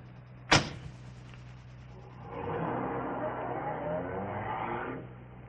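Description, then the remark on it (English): A car door slams shut with a single sharp thud, followed a moment later by an engine starting up and rumbling steadily for a few seconds before cutting off. “Come along, bring your bag. The car's right here.”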